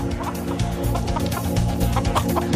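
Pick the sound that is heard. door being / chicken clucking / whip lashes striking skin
chicken clucking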